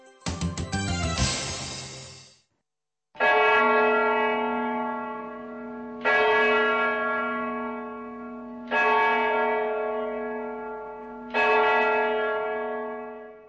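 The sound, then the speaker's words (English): A church bell in the Czech Republic tolls slowly and loudly on Sunday to commemorate the death of Pope John Paul II, four deep strikes roughly every two and a half seconds, each ringing out and fading, after a brief burst of other ringing at the start. “Church bells tolled across the Czech Republic on Sunday to commemorate the passing of the first Slav in history to lead the Roman Catholic Church.”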